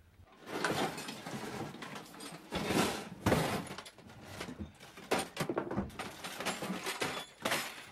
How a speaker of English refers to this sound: He laboriously pulls the metal toolbox down from the bench above him.